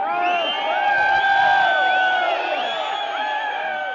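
A large crowd of supporters cheers and shouts continuously as former president Almazbek Atambayev leaves prison, many overlapping voices rising and falling in loud, excited whoops with no pause throughout.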